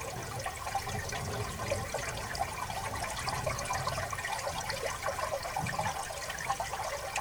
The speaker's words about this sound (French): La rivière, ça fait 4 fois qu'elle se fâche et c'est pas fini. Les crues, c'est pas fini.